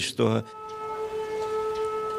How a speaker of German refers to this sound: Kurz darauf heult wieder die Sirene.